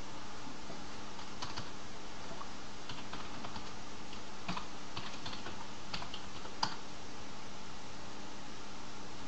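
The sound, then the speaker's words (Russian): A handful of sharp computer keyboard key presses click out irregularly over a steady background hiss, with no one speaking, as the Ctrl-Alt plus F1–F6 key combination is typed to switch to a text console. “Это комбинация клавиш Ctrl-Alt с F1 по F6.”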